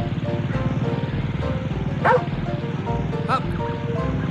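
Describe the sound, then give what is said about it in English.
A new garden power mower mows a lawn on a fine day with hardly any smog in Altadena, its engine droning and chugging evenly throughout, while a dog yelps sharply a couple of times over the motor noise. “I think I'll try out my new garden power mower and mow the lawn.”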